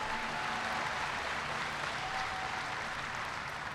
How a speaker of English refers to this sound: I also want to thank Representative Dave Lobsack for being here. Give Dave a big round of applause.